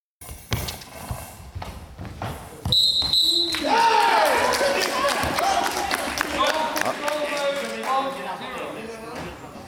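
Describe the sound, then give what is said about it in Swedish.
During a match, a ball thuds and bounces several times in quick, uneven succession as it rolls between two outstretched Greek defenders for the first goal, then a loud crowd roar swells and carries on through the rest, with whistling tones and voices mixed in. “Snyggt rullande boll som går emellan två utsträckta grekiska försvarare.”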